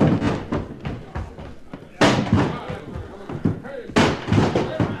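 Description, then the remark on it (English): Heavy bodies ram against a door in two loud, booming impacts about two seconds apart, with scuffling and muffled commotion between the blows, as people rush to force the door open. “Okay, one more rush to get that door open.”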